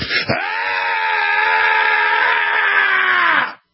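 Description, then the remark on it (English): One loud, enthusiastic 'freedom yell' from a single caller to a talk radio show, held for over three seconds at a steady, strained pitch after a brief catch at the start, then cut off abruptly. No other sounds accompany it. “And real quick, Alex, I just wanted to give a good freedom yell, if I may.”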